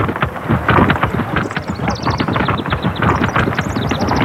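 A herd of pigs from a pig farm tramples in, a dense, rapid clatter of many hooves thudding on the ground, loud with a rumbling, windy undertone and no voices.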